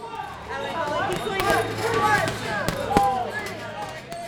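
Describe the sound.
A few irregular, sharp thuds of punches landing on a heavy bag braced by a volunteer during a boxing workout, heard over a steady wash of background chatter and voices.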